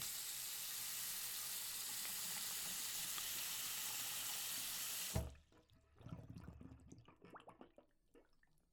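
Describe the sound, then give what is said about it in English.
A faucet runs steadily into a sink with a broad, hissing rush for about five seconds, then shuts off abruptly, followed by quieter drips and clinks of water. “Amazing what a little soap and water will do to make you feel better.”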